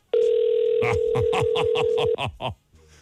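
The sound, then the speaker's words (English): A phone call to an intern goes unanswered: a steady telephone line tone hums for about two seconds while a quick run of short, evenly spaced electronic pulses plays over it, then the line cuts off with a few faint clicks. “See, that's why we don't have interns very often, because they can't do simple tasks like answering the phone and stuff.”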